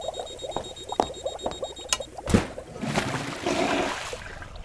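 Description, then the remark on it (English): Water mixed with spores churns and gurgles in a tank with uneven bubbling pops, then gives way to a louder, steady rushing hiss as the mixture is aerated and pressurized, with no voices. “The spores are being mixed with water in the tank as designed. It's being aerated and pressurized as designed.”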